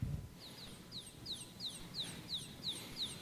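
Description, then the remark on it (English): A baby chick peeps repeatedly in a steady rhythm, with high, thin downward-sliding chirps about every third of a second, clear over a quiet background with no talking. “A little baby chick, that's right.”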